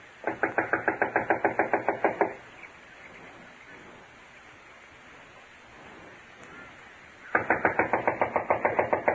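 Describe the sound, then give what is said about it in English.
Two bursts of rapid, evenly spaced knocking on the wooden door of a run-down, unoccupied house, loud, separated by several seconds of steady background hiss with no one speaking. “I'll knock.”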